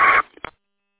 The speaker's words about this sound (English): Do you have a Roger beep on your tone there when you on key? It sounds like a Roger beep. I don't think it was turned on, but I don't even know if this radio has one or not